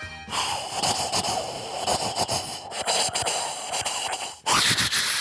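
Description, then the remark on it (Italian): A voice imitates a train with continuous breathy chuffing and wheezy hissing in a quick rhythm, closing with a sudden louder burst of steamy hiss. “So fare anche il treno, Vai.”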